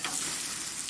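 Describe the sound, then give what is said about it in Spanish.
Food sizzles on a barbecue grill: a steady, hissing crackle of frying with fine pops scattered throughout, fairly loud and continuous for under a second, with no voices. “Es el sonido de la caja que te convertirá en el rey de la barbacoa.”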